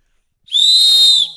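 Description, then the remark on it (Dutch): A single sharp, high-pitched whistle blast lasting under a second, loud and steady with no voices around it. “Maar dit fluitje is in ieder geval terecht.”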